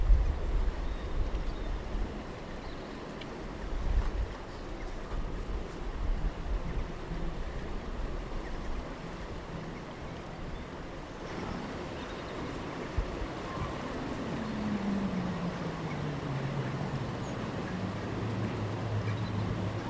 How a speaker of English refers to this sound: Some very funny sounds here. That aeroplane going. Yeah, it's kind of odd.